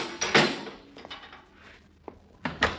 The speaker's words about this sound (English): Okay. Shut the door after you, Molly.